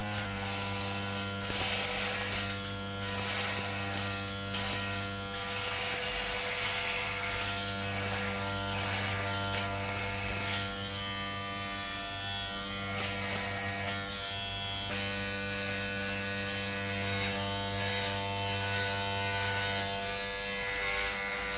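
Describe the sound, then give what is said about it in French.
A 16-year-old shaves at the washbasin in a bathroom; an electric razor buzzes steadily for the whole stretch, a dense humming drone whose tone shifts slightly as it moves across skin, with no voices. “Ouvre le néon qui se trouve devant le lavabo et se rase.”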